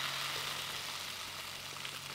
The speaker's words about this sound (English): when you're out in the woods, and when you're out there with some other people hiking, and you spend the night and you wake up to that sound, bacon in the frying pan.